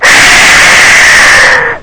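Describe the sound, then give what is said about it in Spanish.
An ocarina gives one loud, harsh, breathy blast that imitates a jaguar's roar. It holds steady for nearly two seconds, then cuts off abruptly, with no voices. “Este es una ocarina con el rugido del jaguar.”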